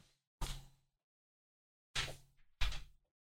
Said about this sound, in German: Das Mikro ist zu, aber mich nervt. Ich mache mal ganz kurz die Tür zu. Bleibt mal dran, bitte.